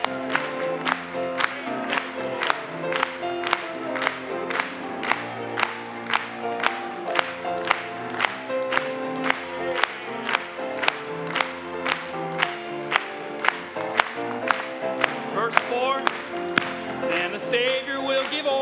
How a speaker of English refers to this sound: Oh, I will shout and I will sing when the redeemed are gathering. Let's clap it to them.